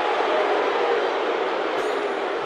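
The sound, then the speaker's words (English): A dense, unbroken roar from a large crowd of Geelong supporters at GMHBA Stadium during a match. It is loud and steady throughout, with no single voices standing out and no talk over it. “Have a listen to the crowd.”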